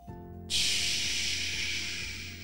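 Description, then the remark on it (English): A voice imitates pouring rain with a steady, loud breathy hiss that begins after a short quiet moment and holds evenly for about two seconds, fading slightly at the end. “Can you make the sound of rain?”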